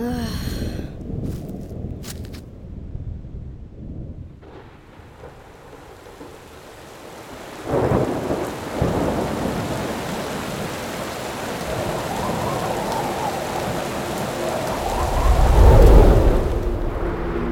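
Steady rain hisses throughout while thunder rumbles in twice, a sharp crack partway through and a louder, deep rolling boom near the end. No one speaks.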